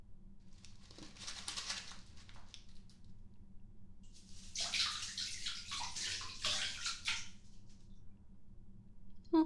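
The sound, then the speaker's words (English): Bath water splashes and sloshes in a tub in two bursts, a brief one followed by a longer, louder stretch of churning, ending with a small knock. No one speaks. “What have you done to my water?”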